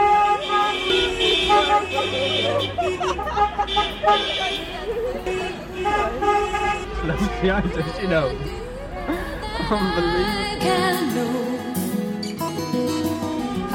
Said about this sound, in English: So we've just basically done a huge lap of Birr, going a massive train of cars bibbing their horns, which just waving at anybody basically. Oh, now the trucks are joining in.